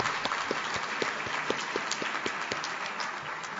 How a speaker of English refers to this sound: And even though we've all applauded them already, I would ask all of them to stand at this point.